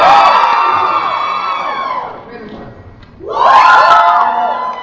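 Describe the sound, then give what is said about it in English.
An audience screams and cheers loudly for about two seconds during a quick spot check of the rooms, dies down briefly, then erupts into a second burst of excited shrieks and whoops. “You can scream, you can make noise.”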